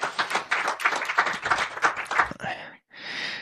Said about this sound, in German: Kleinen Applaus, der nächste Gast kommt auf die Bühne.